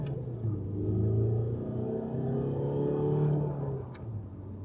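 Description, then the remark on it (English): A car engine revs and accelerates with a loud, steady rumble, its pitch rising and falling in sustained harmonic tones over several seconds, with no voices. “This is the best car in the world.”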